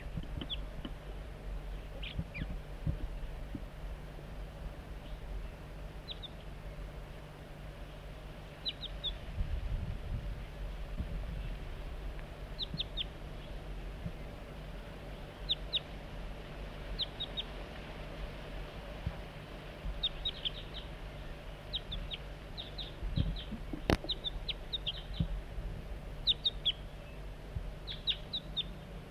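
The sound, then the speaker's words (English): Wild juvenile crossbill calls: short, high, chirpy notes come in scattered bursts of two or three across the whole stretch, fairly faint over a steady low rumble, with no one talking. “Start recording juvenile.”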